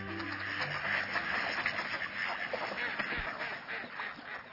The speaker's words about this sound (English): Ah, mallards at your local pond. They're our largest dabbling duck, and among ducks, the most abundant species. They're the source of all domestic ducks, except the Muscovy. There's a female making herself heard.